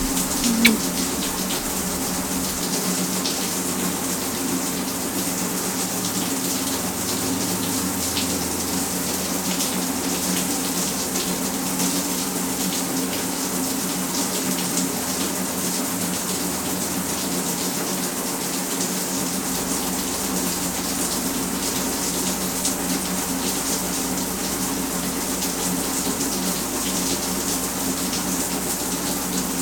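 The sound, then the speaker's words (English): A warm shower runs steadily for the whole stretch, a constant, bright hiss of spraying water at even loudness with no voices and no pauses. “Shower feels warm enough, babe.”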